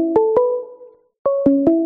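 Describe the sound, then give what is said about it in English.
A phone's emergency line rings with two short bursts of bright electronic tones, each note stepping in pitch, separated by a brief silence. Clear, with no voices. “I was in the middle of playing and suddenly everything's ringing.”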